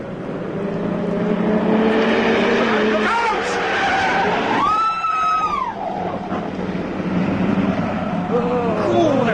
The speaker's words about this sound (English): He came round the corner like a flipping rocket. He's never even put his blinking brakes on.